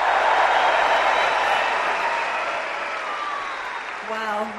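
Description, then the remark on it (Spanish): A huge stadium crowd at the Wimbledon tennis trophy ceremony roars and applauds in a sustained ovation as the champion is about to speak, loud and dense throughout, before a voice starts speaking over the cheering near the end. “Mira, mira qué ovación.”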